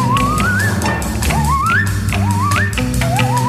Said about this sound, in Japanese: ずっとノコギリピュワワワってやってるんですよ。ずっとやってる。いつまでポワワやるんですかねこれ。時々長い。これは相当すごいノコギリプレイですよねこれね。